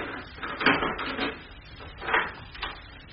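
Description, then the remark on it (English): A wooden door being opened: a few rough, scraping creaks and soft knocks in uneven bursts, moderately loud, with no one talking. “Ah, this is the door.”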